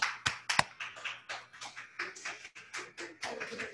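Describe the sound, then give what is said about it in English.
Scattered applause from a small group standing to applaud people doing service for OA, irregular claps overlapping for a few seconds, opening with two sharp, louder claps, over a faint low hum and no voices. “Will all people doing service for OA at any level please stand and applaud service?”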